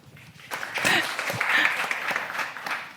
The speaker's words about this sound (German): Kleinen Applaus bitte